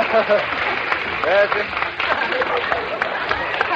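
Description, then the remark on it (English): Steady, dense applause fills the whole stretch, a continuous patter of clapping hands, with people's voices talking and calling out over it. “He's applauding like mad, just to chip off the old block.”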